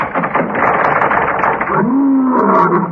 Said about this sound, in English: Ooh. That sounded like a lion. Yes, didn't it? Boris? No. That's Fred.